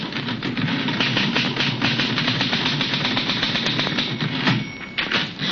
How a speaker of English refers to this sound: Two assistants are sorting out plates and other paraphernalia saved from the fire, while Tom himself is bent over his typewriter in deep concentration.